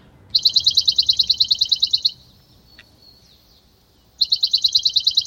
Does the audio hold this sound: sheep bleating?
no